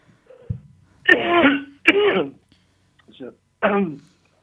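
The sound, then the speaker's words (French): A person coughs and clears their throat several times, with rough, raspy bursts separated by short pauses; a couple of the bursts are strong and the later ones are fainter. “Ce qu'on appelle un chat dans la gorge.”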